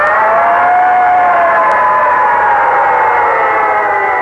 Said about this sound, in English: In fact, he wasn't very excited about breakfast until he heard a noise. He looked out the window, and there, roaring down the street, was a great big red fire engine.